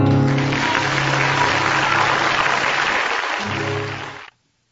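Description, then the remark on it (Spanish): Sustained audience applause follows the end of a song, dense and steady clapping that fades quickly near the end, with a faint lingering musical tone underneath. “Los aplausos siempre estuvieron haciéndole honor”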